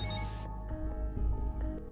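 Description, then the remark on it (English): A woman's phone rings with a steady, sustained electronic tone, clear, right after a brief rush of hissing noise cuts off. “Hearing her phone, her expression changes.”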